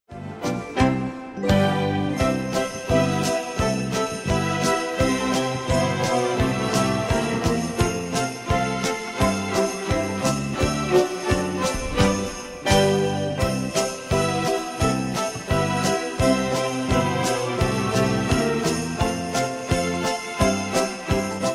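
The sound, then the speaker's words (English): Sleigh bells shake in a steady, bright rhythm throughout an upbeat, full-band rendition of the holiday song Jingle Bells with no singing or talking, the jingling riding loud over driving beats and warm harmony. “Jingle Bells is a classic holiday tune that features the sound of sleigh bells prominently.”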